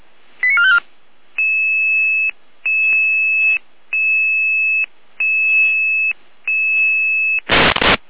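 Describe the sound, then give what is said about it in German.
A quick warbling chirp, then a sequence of steady two-tone electronic alarm beeps in evenly spaced bursts, ending with a short harsh burst of static: a radio pager alarm calling out a crisis intervention team in the Saale-Orla district, Germany. “Alarm.”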